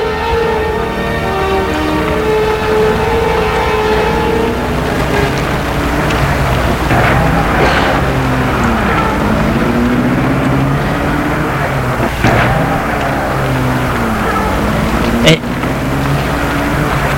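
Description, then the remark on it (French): A car engine hums steadily, its pitch shifting as the vehicle pulls away after a woman gets out, at Perrache station in Lyon, over a constant low rumble with a couple of sharp clicks near the end. “Elle sort de voiture, elle, il met la voiture en”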